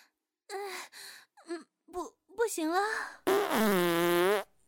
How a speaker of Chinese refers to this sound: 不行了。好丢脸呀，在大家面前放了个又响又臭的屁呢。早上吃的咖喱饭，果然咖喱屁特别臭呢。